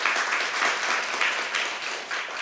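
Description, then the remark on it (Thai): An audience applauds steadily for the direct-selling company Atomy and its CCM award, a dense crackle of many hands clapping at an even loudness throughout, with no voices rising above it. “แล้วบริษัทนะคะที่ได้นะคะCCM นี้เราก็เป็นบริษัทขายตรงแรกเช่นกันที่ได้และเป็นบริษัทขายตรงเดียวที่ได้รางวัลได้CCM นี้มานะคะตบมือให้กับบริษัทอะโตมี่ด้วยนะคะ”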